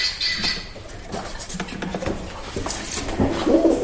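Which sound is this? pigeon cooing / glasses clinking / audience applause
pigeon cooing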